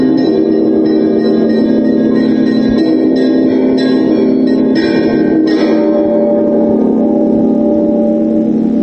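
cathedral church bell ringing

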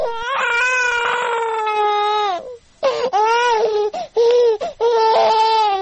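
baby crying

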